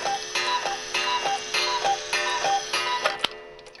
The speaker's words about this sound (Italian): però, questo cazzo di cucù. Cioè, stiamo facendo un discorso serio. E lui fa del suo meglio per sdrammatizzare, cucciolo.